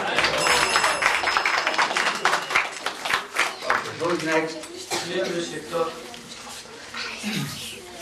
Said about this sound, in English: Very good, clap.